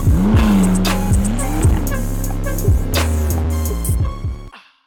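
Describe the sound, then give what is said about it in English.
A McLaren sports car engine roars and revs with squealing tires and a few sharp thumps, then a jolting hit as it strikes a pothole, damaging the car, before the sound cuts off abruptly. “After hitting a pothole and damaging his car at the song's end,”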